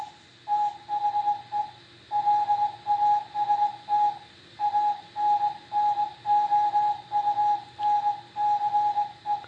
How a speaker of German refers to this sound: Hier kündet Nordech Radio an, dass er jetzt zum letzten Mal eine Funksendung ausstrahlt und sich damit bei allen noch vorhandenen oder zuhörenden Seefunkstellen für die jahrelange Mitarbeit oder bedankt.